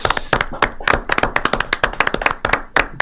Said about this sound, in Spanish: lo aplaudimos a él.